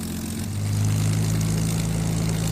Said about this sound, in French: qui a déjà eu un petit avant-goût quand l'appareil a roulé au sol sur la piste. C'était merveilleux.